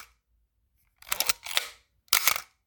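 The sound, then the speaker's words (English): A Spotmatic film camera's fully mechanical shutter fires at 1/8 second: crisp metallic clacks with a short buzzing, egg-timer-like whir of its mechanical timer's gear train, heard in three quick bursts with no talking. “all you pretty much hear is just the hint of that egg timer”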